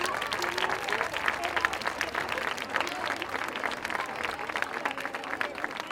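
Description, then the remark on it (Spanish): Sustained audience applause for Molino de Fuego, the women organizing the event, a dense steady patter of many hands clapping at an even loudness for several seconds, with faint crowd murmur mixed in. “Así que fuerte aplauso a Molino de Fuego.”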